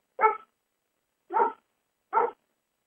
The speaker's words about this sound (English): It's too hot out there in the backyard. He'll go out there and bark a little bit.